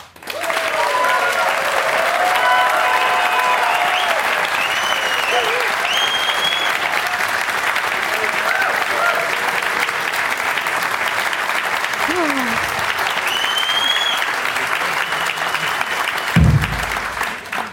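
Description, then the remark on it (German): Sustained audience applause, a dense steady wash of clapping lasting the whole stretch at an even loudness, with faint voices and whistles poking through the noise. “Nur der Applaus für die Vorgemeinschaft.”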